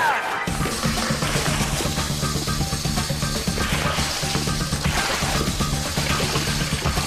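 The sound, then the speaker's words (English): Buckets of water pour steadily into a large container, ten buckets in all, a loud, continuous rushing splash that starts abruptly and keeps going without pause. No one speaks. “Now there are already 10 buckets of water in here, so we add one bucket of soap.”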